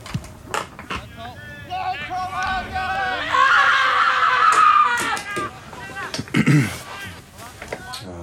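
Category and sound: human body sound, human screaming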